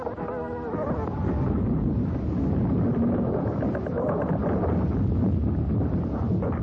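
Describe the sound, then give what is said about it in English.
A steady, loud low rumble of an earthquake recording, much of it the shaking of buildings, that swells and holds throughout, with a dense rattling texture running over the roar. “And then they'll be followed by a loud rumbling, a very low rumbling.”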